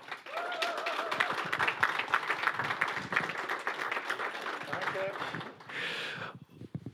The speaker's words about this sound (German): Vielleicht können wir ihn herzlich willkommen heißen hier auf der Bühne mit einem fetten Applaus.